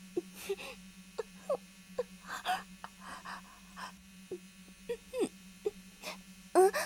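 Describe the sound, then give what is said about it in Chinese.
A thin, steady buzzing drone hangs in the background the whole time, like a mosquito hovering at home in summer, while scattered short clicks, knocks and breathy sounds come and go over it. “你说好像有嗡嗡声。”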